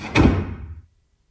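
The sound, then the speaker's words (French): A door opens with a single woody thump and a rattling rush of movement that fades out within a second, followed by silence. “Je marche, j'ouvre une porte, j'ouvre un livre.”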